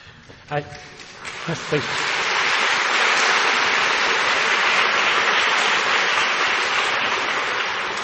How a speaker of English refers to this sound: and save some more of your applause.